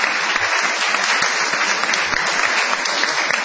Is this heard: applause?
yes